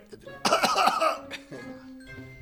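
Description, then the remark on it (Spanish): A man coughs in a couple of loud, rough, harsh spasms, then trails off into quieter throaty sounds and a faint murmur of voices. “Una vez que tose, trajito a la Ginebra.”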